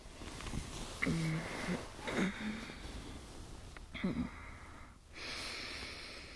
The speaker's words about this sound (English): Maybe cuddling into this snoring beast will help.